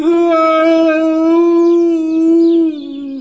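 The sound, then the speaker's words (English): A loud, mournful howl held on one steady pitch for about three seconds, sagging slightly as it fades at the end. It stands alone, with no talking around it. “So at last he lifted up his head, jar and all, and made a loud, roaring noise of sadness and despair.”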